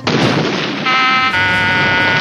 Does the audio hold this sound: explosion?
yes